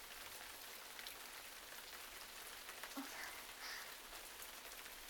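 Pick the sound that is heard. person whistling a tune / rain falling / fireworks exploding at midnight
rain falling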